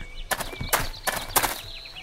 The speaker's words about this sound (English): Okay, so you can actually hear a noise. It's like echoing footsteps. If you are running and the gap is approaching, you can hear your footsteps echo.